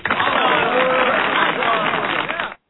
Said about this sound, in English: Got the applause going on there for you.